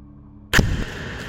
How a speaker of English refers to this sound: A sound like an explosion makes me jump out of my seat.